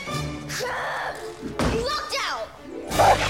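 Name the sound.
front door closing shut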